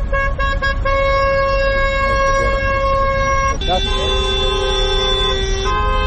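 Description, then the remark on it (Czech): Car horns blare in sustained, overlapping honks, one long tone shifting to another midway, loud over a constant traffic rumble, from a taxi drivers' protest convoy of nearly 100 cars driving through the streets of Podgorica at noon. “Blizu 100 automobila kretalo se u koloni ulicama glavnog grada u podne kada je počela protestna vožnja, čiji su učesnici još jednom pozvali nadležne da riješe problem divljih taksista.”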